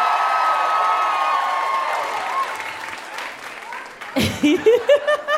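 An audience breaks into steady, loud applause with some cheering, fading gradually over about four seconds before a single voice starts talking over the tail end.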